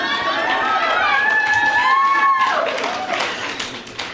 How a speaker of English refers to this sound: All right. You guys are awesome. I haven't even started. I got claps.